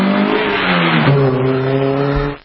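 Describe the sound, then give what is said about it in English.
An Audi car engine revs hard at high speed, reaching 187 mph through a construction zone on Interstate 95, a loud, sustained roar with harmonics climbing and shifting like gear changes, steady for a couple of seconds before cutting off abruptly. “He wanted to hit the high miles per hour in his car. So he reached 187.”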